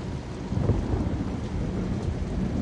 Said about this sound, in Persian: ولی به نظرم بهتره همینجا پناه بگیریم و صبر کنیم تا طوفان بگذره.